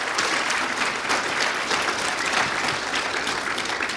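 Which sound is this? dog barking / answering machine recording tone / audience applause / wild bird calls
audience applause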